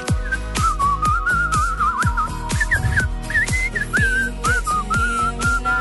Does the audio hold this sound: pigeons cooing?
no